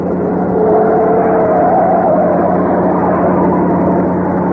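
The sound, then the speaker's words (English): The engine of an old jalopy drones steadily and loudly during a car chase down Lexington, its pitch rising slightly as it accelerates, with a constant low rumble underneath and no voices. “I can't open up with this jalopy.”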